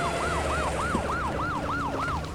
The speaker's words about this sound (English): She barely has time to finish the sentence when the sound of sirens leads to many red and blue flashing lights. And soon, even in the smoke, we can make out the police cars, ambulances, and fire trucks pulling up.